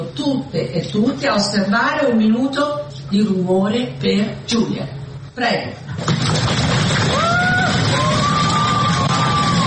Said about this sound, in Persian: این 237 نماینده به یاد جولیا قربانی که الهام بخش تصویب این قانون بود نه یک دقیقه سکوت که یک دقیقه سر و صدا کردند، پای کوبیدند، دست کوبیدند و فریاد شوق از تصویب این قانون کشیدند.